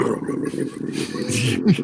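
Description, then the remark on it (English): A voice imitates a Firebird car's engine starting as it is turned over, a low, steady rumbling growl that runs for about two seconds and swells slightly louder near the end. “The sound of my brother's Firebird when he turned it over, and he goes.”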